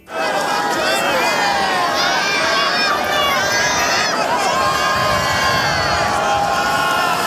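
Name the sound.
crowd cheering and applauding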